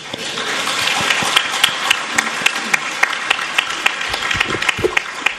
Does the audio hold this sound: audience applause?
yes